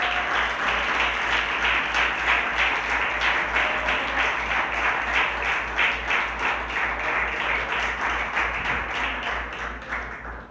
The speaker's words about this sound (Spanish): Denle un aplauso, por favor, al que vive.